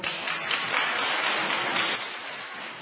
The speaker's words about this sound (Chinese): 我们再一次鼓掌，谢谢他的见证。我们也鼓掌欢迎下一位见证人来到前面位置作证，我们鼓掌欢迎他。